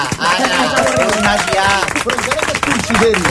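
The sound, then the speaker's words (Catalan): An audience applauding, a dense and steady patter of many hands clapping for the whole stretch, with voices talking and calling out over the clapping. “Mira el poble, que aplaudeix.”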